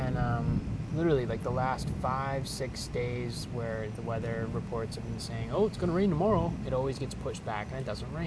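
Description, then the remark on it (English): An air conditioning unit hums steadily in the background, a constant low drone running beneath a person talking throughout, at about 10 at night during a thunderstorm with a little rain. “Now it's raining a little bit, but the sound you're hearing in the background is actually just air conditioning.”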